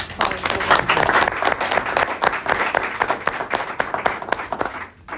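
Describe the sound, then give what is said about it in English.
A round of applause at a board meeting for the scheduling department's start of the school year: many hands clapping in a dense, steady patter for several seconds before it thins out and briefly drops away near the end. “It just went off so smoothly, and just a round of applause.”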